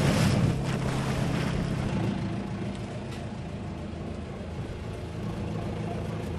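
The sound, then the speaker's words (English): An oyster fishing boat's engine drones steadily in Tralee Bay, with wind buffeting the microphone and water washing around the hull; no voices, just continuous low rumble out on open water. “obviously we're in the oyster fishery now in Tralee Bay, but then looking outwards towards the Maharees, there's a huge amount of potential out there as well, not just for fishing, but for restoration.”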